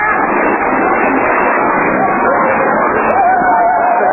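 A crowd runs in panic at a march after loud bangs and tear gas being thrown, a loud, dense wall of overlapping voices and commotion that rolls on without a break, with a thin rising cry poking through near the end.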